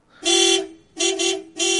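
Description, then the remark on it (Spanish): A taxi's car horn honks three times in quick succession from the street at night, a bright steady blare with short gaps between, fairly loud. “Sonó el claxon del taxi desde la calle.”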